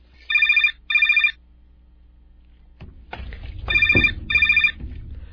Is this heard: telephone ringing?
yes